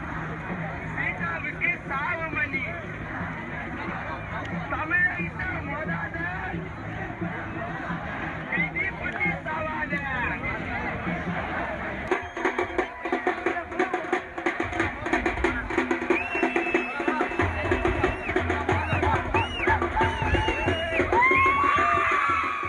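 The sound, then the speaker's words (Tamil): A large protest crowd of members of the public and students in Chennai, holding processions, raises slogans in a loud, continuous mass of overlapping voices. Midway the din grows sharper and busier, with rising shouts and a few high whistle-like tones toward the end. “அவர்களுக்கு ஆதரவாக நகரின் பல்வேறு பகுதிகளிலிருந்தும் பொதுமக்களும் மாணவர்களும் ஊர்வலங்களை நடத்துவதோடு கோஷங்களையும் எழுப்பி வருகின்றனர்.”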